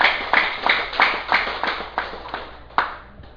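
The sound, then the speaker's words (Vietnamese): An audience at Duoc Su Temple (Chùa Dược Sư) claps together in a steady, even rhythm, about three claps per second, fairly loud at first and gradually tapering off, with one final sharp clap near the end. No one speaks. “Cho nên xin mời đại chúng vỗ cho một tràng pháo tay.”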